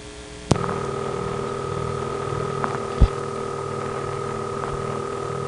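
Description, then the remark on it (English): A sharp click, then a steady, unbroken ringing tone bleeds onto the line of a prepay coin phone on the 753 prefix, area code 617, picked up before any dime is inserted. It holds one pitch over constant line hiss and low hum, with a faint thump midway. “I pick up a prepay phone, haven't put a dime in yet, and there's continuous ring sound bleeding through onto the line.”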